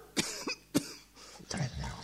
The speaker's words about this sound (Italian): Qualcuno che tossisce, uno degli orchestrali russa in un angolo.